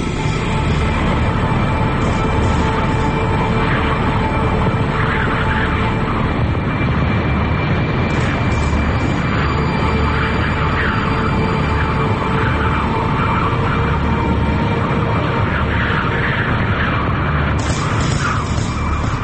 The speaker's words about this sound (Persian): توی خیابون فقط توی، هیچ کس نیست، صدای زوزه باد میاد، دور و برت نگاه میکنی شاید یه نفر رو ببینی، هیچ کس نیست، فقط صدای باد، فقط تو.